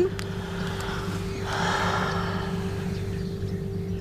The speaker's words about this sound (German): Dein Schnaufen war gerade schön.